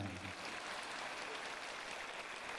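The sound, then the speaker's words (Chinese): An audience claps steadily throughout, a dense, even wash of many hands, with a brief trace of a voice at the very start. “你说的响，他们鼓掌鼓的响；你说的轻，他们鼓的轻。”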